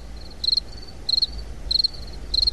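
Crickets chirp in four quick, evenly spaced bursts of shrill trilling, with a faint steady hum underneath and no voices.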